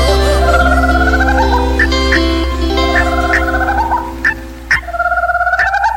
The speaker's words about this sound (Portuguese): Agora cocá. Na hora eu ouvi o grito da cocá.